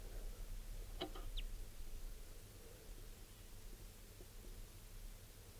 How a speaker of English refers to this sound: So recording here is that same type 2 bird, wild bird. It's a male. He's coming down.